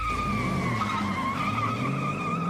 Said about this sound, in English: He speeds out of the lot in the muscle car, wearing a determined look.